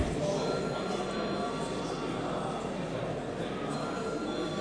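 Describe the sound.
An electric parliament chamber bell rings continuously for several seconds, a steady, dense rattling clangour that never pauses, with faint murmuring voices beneath it, calling deputies to vote on a bill in its first reading.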